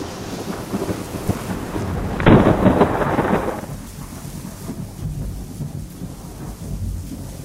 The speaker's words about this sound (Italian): Il tuono. Rotolo, rotolo, rotolo, rotolo, rotolo, rotolo, rotolo, rotolo. È passato sopra il mio tetto. Deve essere una gigantesca palla fatta di nubi. E corre nel cielo da un punto all'altro.